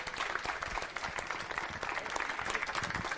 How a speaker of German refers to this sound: Kommen alle mal, die jetzt irgendwie tatsächlich auch da sind vom POC und einfach mal hier hin und bitte nochmal einen Applaus für unsere Leute.